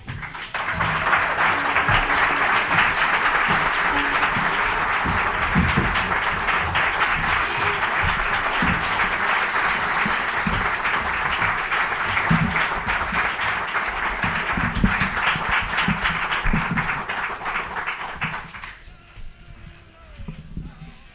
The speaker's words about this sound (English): It's a wonderful looking audience out there, and this is a wonderful room for applause. It really just zooms in right here on the stage.